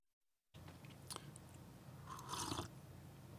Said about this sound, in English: Excuse me just a minute while I clear my throat and sip more coffee.